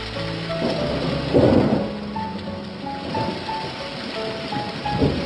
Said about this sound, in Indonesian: Hujan sungguh lebat di luar, bajuku basah karenanya.